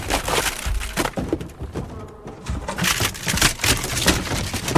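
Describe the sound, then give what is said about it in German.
Benjamin the elephant crashes through a wooden door on the way to Herr Tierlieb's office at the zoo, with loud, continuous splintering and cracking of wood, heavy thuds and rattling debris over several seconds and no voices. “Benjamin, 100.000 Mal habe ich dir gesagt, du sollst nicht durch die Tür gehen.”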